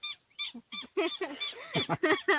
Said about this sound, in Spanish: Y ahí vio el pajarito, hay pajaritos también. Es muy bonito por acá.